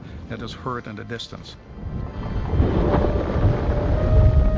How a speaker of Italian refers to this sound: Quasi sempre un boato annuncia quando un terremoto sta per colpire. Molte persone dicono assomigli a un qualcosa che scricchiola. Altri riferiscono che sembra il motore di un jet o un tuono in lontananza.